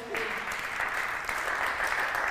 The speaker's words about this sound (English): Round of applause